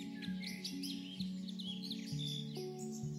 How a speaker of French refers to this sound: Tu observes un oiseau dans les arbres.